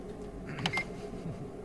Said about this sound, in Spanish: En la web se despliega un plano con objetos que puedes ir pulsando y van sonando. Por ejemplo, una fotocopiadora.